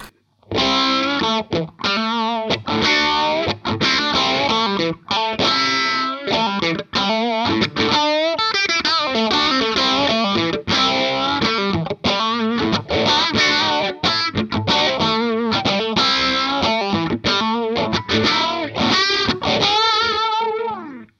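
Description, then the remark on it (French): An electric guitar with light overdrive plays a continuous run of notes and chords, a phaser placed before the overdrive sweeping slowly through the tone, steady in level with no voices. “On commence donc par l'overdrive léger avec le phaseur avant.”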